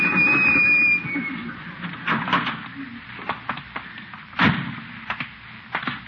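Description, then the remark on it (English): A door slams shut with a sharp, loud bang, surrounded by several lighter knocks and clatters; a steady whirring tone fills the opening second before the impacts. “Slam the door on my tail.”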